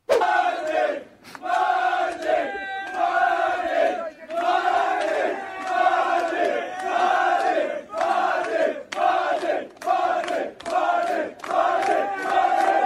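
group cheering

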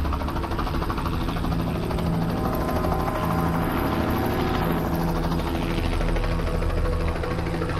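helicopter flying

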